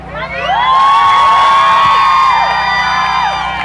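A large crowd of young women and student protesters at universities such as UNAM, UAM and UPN shouting and cheering together against harassment, loud, with many overlapping high-pitched voices sustaining long chanted calls over a steady roar.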